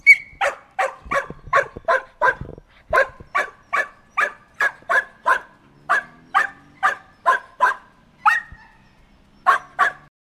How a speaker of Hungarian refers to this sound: Ugye voltak olyan kutyák, amiket kivittünk a parkba vagy utcára, ott a gazda kikötötte és ott hagyta, tehát úgy csinált, mintha elment volna hosszabb időre. Előbb-utóbb ugye a kutyák elkezdenek ugatni.